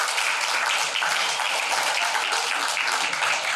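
A crowd applauds steadily, many hands clapping at once into a dense, hissing wash of sound that holds an even loudness for a few seconds with no voices standing out.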